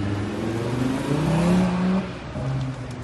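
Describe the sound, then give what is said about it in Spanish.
The engine of a discreet car carrying footballer Kylian Mbappé hums and revs as it pulls out of a hotel parking garage, its low tone climbing steadily in pitch before easing off and rising again; a continuous moderately loud motor sound with no voices. “Y después se marchaba el delantero con toda la prisa del mundo por evitar cualquier tipo de fotografía en la parte de atrás de un coche, de un discreto coche, que salía así de ese parking del hotel.”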